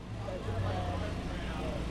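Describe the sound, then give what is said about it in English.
A steady, low mechanical roar from portable food truck kitchens in Petoskey hums continuously at moderate volume, with faint, indistinct voices murmuring underneath. “140 miles to the north, the roar of portable kitchens can be heard in Petoskey.”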